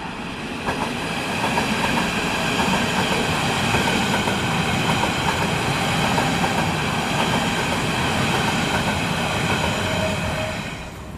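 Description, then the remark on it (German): An S-Bahn commuter train rumbles past on the rails, loud and steady throughout, with a broad roar of wheels and faint rhythmic clatter, plus a thin high metallic whine above it. No one speaks. “Wir gehen jetzt hier über eine Brücke rüber und nehmen jetzt erstmal die S-Bahn auf.”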